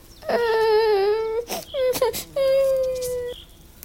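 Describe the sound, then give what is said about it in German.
A voice imitates a little owl wailing even louder after an old stag beetle threatens to pinch it: two long, loud, high-pitched crying wails, about a second each, with a short broken whimper between them. “Jetzt heulte die kleine Eule noch viel, viel lauter.”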